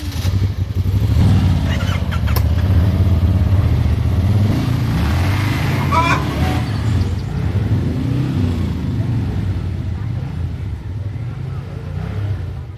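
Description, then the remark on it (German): A vehicle engine running on vegetable oil idles loudly and steadily, a deep rumbling drone with some mechanical clatter throughout, and voices can be faintly heard beneath it. “Wenn man die Fahrzeuge mit Pflanzenöl betreibt, dann heißt es, man kann das einfach in unserem Land erzeugen, dass man Auto und so weiter fahren kann.”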